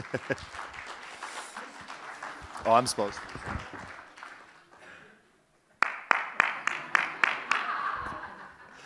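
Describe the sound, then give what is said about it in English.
Scattered audience applause and chatter under a speaking voice, then a run of sharp, evenly spaced hand claps, about seven in a row, ringing out clearly near the end: a hand clap of appreciation for the church in Wisconsin. “Let's give the church in Wisconsin a hand clap of appreciation.”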